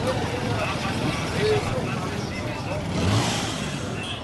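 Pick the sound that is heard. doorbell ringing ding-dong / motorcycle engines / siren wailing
motorcycle engines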